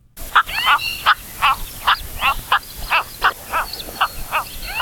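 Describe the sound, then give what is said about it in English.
Cattle egret calls: a long run of short, harsh croaking notes repeated in an irregular, chattering rhythm, clear over a faint background hiss. “Thanks to the Macaulay Library at the Cornell Lab of Ornithology, we've got the calls of the sleek but sometimes clumsy cattle egret.”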